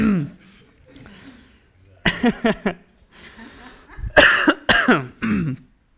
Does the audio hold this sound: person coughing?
yes